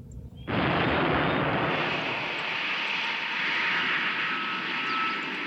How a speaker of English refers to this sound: Wow! A plane!